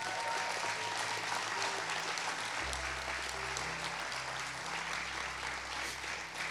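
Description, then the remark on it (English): An audience claps steadily and densely for several seconds, a broad wash of applause for people standing at the front who are about to pray for others, with a low sustained organ-like tone entering partway through beneath it. “So, can we applaud their courage and bravery to”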